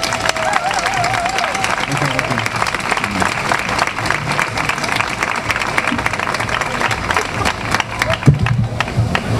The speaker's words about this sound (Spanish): Os pido un aplauso muy fuerte